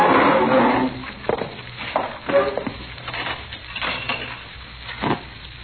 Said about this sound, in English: Sure, just having a cup of coffee in the back. Come on, I'll pour you a cup.